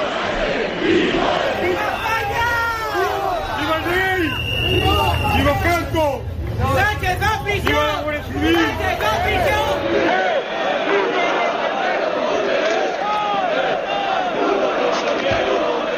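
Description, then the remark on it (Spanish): A large evening protest crowd at the PSOE headquarters on Calle Ferraz, in the city centre, chants insults in unison against the acting head of the Spanish government, the Socialist Party, Catalonia and Carles Puigdemont: loud rhythmic voices rising and falling over a dense babble, chanting steadily throughout. “Son solo algunos de los insultos que se pueden escuchar en contra del presidente del gobierno en funciones, en contra del Partido Socialista, también de Cataluña, de Carles Puigdemont.”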